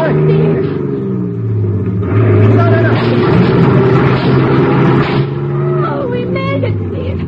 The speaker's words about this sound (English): Step on the gas, Teal. We're going to crash that barricade on the bridge.